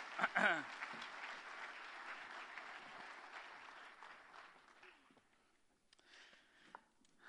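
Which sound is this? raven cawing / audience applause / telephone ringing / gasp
audience applause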